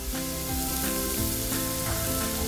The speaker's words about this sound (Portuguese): Agora eu tô com a cebola picadinha. Deixa eu pôr um fio de óleo aqui nessa panela. Vou dar uma dourada na cebola.